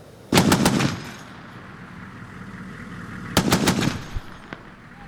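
exchange of gunfire

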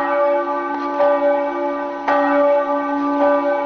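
signal or alarm, church bells ringing

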